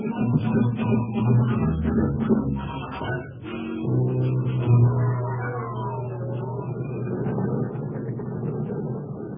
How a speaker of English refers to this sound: The old truck's running pretty smooth, ain't she?